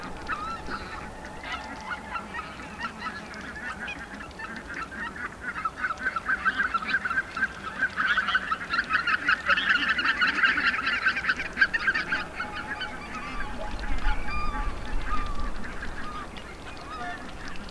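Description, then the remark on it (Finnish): Two Canada geese about 15 metres away honk and chatter with their beaks, a busy, overlapping stream of nasal calls that swells in the middle, with a low rumble of wind or traffic underneath. “Mutta tässä etualalla vain noin 15 metrin päässä on 2 lintua, joista lähtee tämmöinen lätisevä ääni.”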